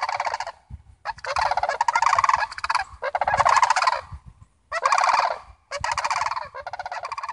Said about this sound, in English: Sandhill cranes, their outrageously huge wingspans, allowing them to fly gracefully together in a V, instinct sending them far away.